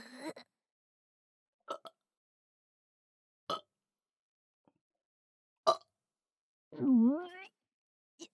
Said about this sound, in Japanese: ゲップ吹きかけてくんな。鼻が曲がる。